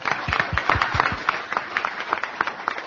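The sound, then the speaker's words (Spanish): An audience at a live radio talk session breaks into applause for those seated at the back against the wall, a dense, steady patter of many hands clapping at moderate loudness that thins slightly toward the end, with no voices heard over it. “Un aplauso para ellos también, entonces.”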